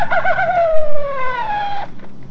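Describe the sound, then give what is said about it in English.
A coyote call: one drawn-out, rich howl that wavers briefly at the start, then slides slowly downward in pitch and cuts off abruptly after a couple of seconds. “The coyote goes.”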